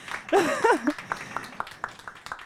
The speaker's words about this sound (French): Vous pouvez l'applaudir aussi. Hein.